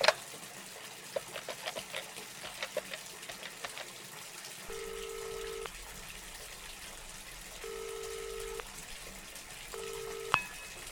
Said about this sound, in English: I'm having a crisis. I can't shut the water off in my house.